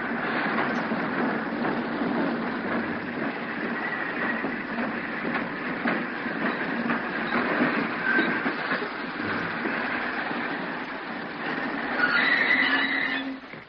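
A train rumbles along steadily with a dense, rattling roar, then thin metallic brake squeals rise near the end as it slows to a stop at Lobok Lingau. No voices are heard.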